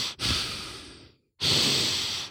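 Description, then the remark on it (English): A voice imitates the heavy breathing of an unseen animal heard in the dark from behind, while sitting in a stand with a bow: two long, loud, airy breaths, an exhale fading out, then a brief pause before another strong rasping breath. No talking. “And I hear this breathing.”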